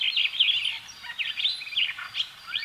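Starling song: a continuous, busy stream of bright chirps, whistles and warbling trills, steady in loudness, with no voices present.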